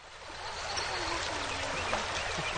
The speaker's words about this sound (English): The clear, spring-fed waters of the Rush River near Martell flow through a steep valley, past limestone cliffs and slopes covered with wildflowers.